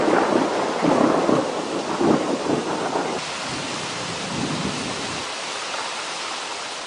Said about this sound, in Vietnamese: Sau đó, bóng tối tràn về cùng với trận mưa như đã tích tụ từ mấy tuần qua được dịp đổ xuống xối xả lớn nhất mà đã lâu rồi chúng tôi mới được chứng kiến. Tôi ngước mắt nhìn trời, lòng bâng khuâng khi trận bão thổi vào.